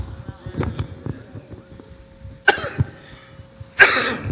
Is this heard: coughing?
yes